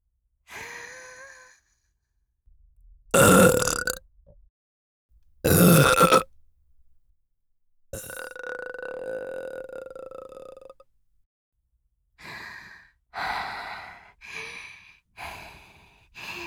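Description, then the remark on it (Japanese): Loud burps with no talking: two short forceful belches, then one long drawn-out burp lasting several seconds, followed by a quick run of shorter burps. “わしの特大足こきゲップで出すのじゃ。”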